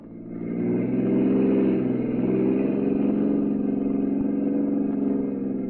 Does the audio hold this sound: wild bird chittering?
no